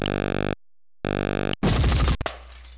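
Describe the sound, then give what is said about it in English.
In a computer shooting game on a skeet range, two steady, buzzy tones with a gap between them, followed by a loud shotgun blast and the sharp crash of a clay skeet being smashed, which quickly fades into a soft hiss. “You have 8 hits out of 18 shots for 10 skeets.”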